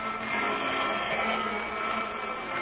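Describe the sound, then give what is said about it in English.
A vacuum cleaner runs with a steady, loud motor roar and a slightly wavering whine, continuous throughout with no voices. “Run the vacuum.”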